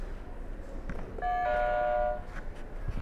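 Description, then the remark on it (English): A single electronic buzzer, hit during an alphabet quiz game, sounds for just under a second, a steady, bright, mid-pitched note with ringing overtones, standing out clearly against a faint, noisy background. “You can hit another buzzer.”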